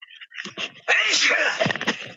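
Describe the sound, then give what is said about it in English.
A single loud sneeze bursts out after a brief breathy intake, with a sharp explosive onset followed by a short trailing exhale. “Bless you”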